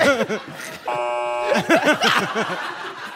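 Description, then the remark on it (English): A flat, steady electronic buzzer sounds for about half a second, sandwiched between bursts of voices and chuckling laughter. “I think you should only, please only address me in the form of dings and buzzes.”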